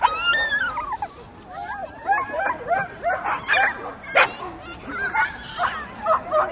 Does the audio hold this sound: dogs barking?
yes